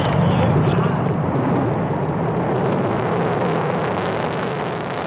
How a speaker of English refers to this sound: Witnessing a rocket launch in person, it can actually emotionally change you a little bit. Once you hear it, the sound waves actually kind of hit you.